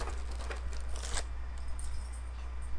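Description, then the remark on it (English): A dog named Titan chewing, heard as quiet, irregular crunchy clicks and rustly bursts over a steady low hum, with a couple of sharper snaps in the first second. “You can hear him chew.”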